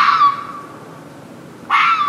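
A fox outside a bedroom window at a home in Northern Virginia gives two shrill, raspy shrieks, one fading out at the start and another bursting in after a short silence, loud, with no voices.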